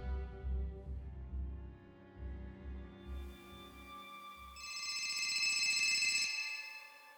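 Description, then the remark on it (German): A phone ringtone chimes with bright electronic tones, growing loud for a couple of seconds over a low pulsing rhythmic hum before cutting off. No one speaks. “The phone is ringing. I pick it up.”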